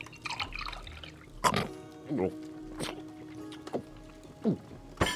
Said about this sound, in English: Now, why don't we have a drink to celebrate? Come, pour me a glass of wine.